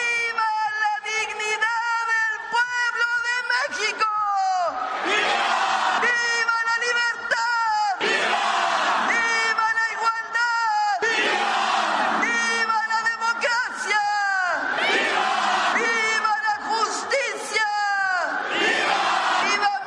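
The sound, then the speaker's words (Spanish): A massive crowd of about 280,000 people at a celebration of 215 years of the country's independence roars and shouts in unison, loud overlapping cheers rising and falling in repeated chant-like waves over a steady thumping pulse, sustained for the whole stretch. “tras tocar la campana y ondear la bandera, la jefa del Ejecutivo Federal presenció frente a 280,000 personas los juegos pirotécnicos y luces junto a su gabinete legal”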